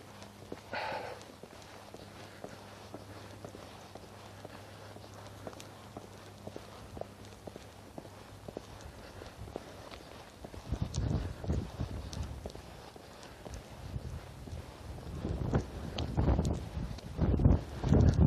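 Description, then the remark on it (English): Footsteps on an outdoor walk: a steady series of crunchy steps that grow louder and more distinct in the second half, over a low background hum and light wind noise. “But it's getting to the point where I had to go for the walk, so I stopped whatever it was I was doing, stepped away from the keyboard.”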